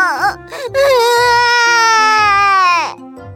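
A child bursts into a loud, sustained wailing cry, high-pitched and strained, holding one long anguished note for about two seconds after a short sob, over a low steady background hum.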